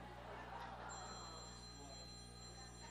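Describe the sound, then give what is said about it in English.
A telephone rings faintly and continuously, its thin high tones sitting over a steady rushing background noise like water. Nobody speaks. “Of all people to have their phone on.”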